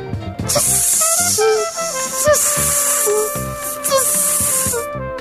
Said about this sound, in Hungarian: Dalolta a köszörűkő.